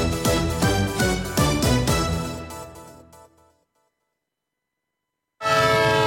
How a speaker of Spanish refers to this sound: Un tren que se va.